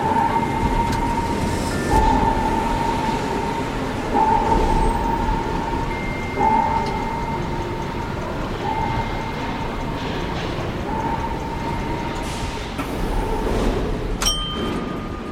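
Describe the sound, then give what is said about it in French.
A metro train rumbles steadily at an underground platform of metro line 11 in the Arts et Métiers quarter, several metres below ground, with a broad low roar and a recurring tonal whine from the wheels or motors, loud, with no voices. “Quartier des arts et métiers, nous entamons notre plongée vers le monde des cités obscures, plusieurs mètres sous terre, sur le quai de la ligne 11 du métro, avec l'écrivain et scénariste Benoît Peters.”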